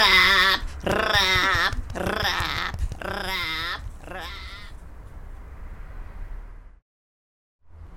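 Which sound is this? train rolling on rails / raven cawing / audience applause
raven cawing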